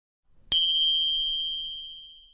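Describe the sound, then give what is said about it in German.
A single gong strike marking the start of an exercise rings out on its own, bright and clear, its tone sustaining and slowly fading away over about two seconds with no talking. “Der Beginn einer jeweiligen Übung wird mit einem Gong angezeigt.”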